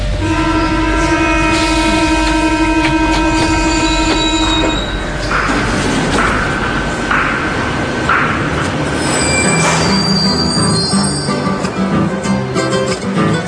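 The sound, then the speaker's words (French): A metro train rumbles loudly along the rails, its wheels letting out sustained high-pitched squeals and whines that rise and shift over a steady rolling roar, with no voices. “S'il n'y a pas trop de décès et pas trop de mariages, j'irai donc dans le métro.”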